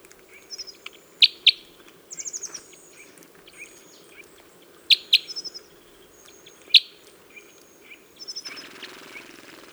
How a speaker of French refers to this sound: Alors ce sont de vrais acrobates. Ils ont la tête en bas, ils tournent autour des branches. Une mésange de nette qui casse une graine.